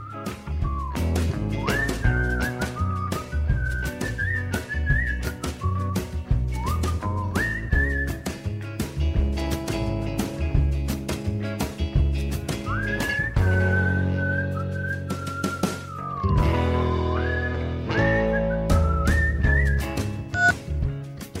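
A clear whistled melody rides on top of a full band arrangement in a song by a Chicago band, with sustained and gliding notes, loud throughout, no voices.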